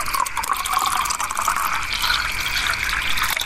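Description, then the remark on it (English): Water is poured steadily into a glass, a continuous splashing pour with a bright, rising ring as the glass fills, heard alone with no voices. “Let me get you a glass of water.”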